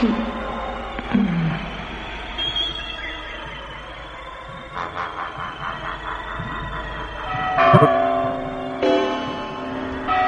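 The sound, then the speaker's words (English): Heavy iron church bells toll slowly, a few deep strikes whose metallic ringing hangs and overlaps, swelling loud near the end over a sustained resonant hum. “Tolling of the bells, iron bells.”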